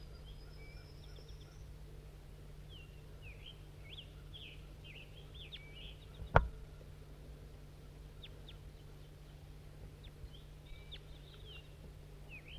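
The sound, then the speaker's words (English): Calls of a wild female crossbill being recorded: short, high chip notes scattered irregularly throughout, some in quick clusters, over a steady low hum, with one sharp knock about halfway through. “We're recording Crossbill.”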